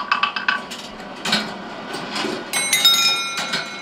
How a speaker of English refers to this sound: A ball-powered chiming clock, a cascade of falling ping-pong balls, and this tabletop ball machine.